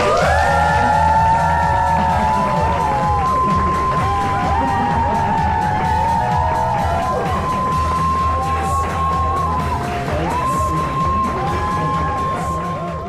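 A large crowd cheers loudly and continuously for about thirteen seconds, many voices shouting and whooping at once over a dense wash of noise that may include clapping, fading slightly toward the end.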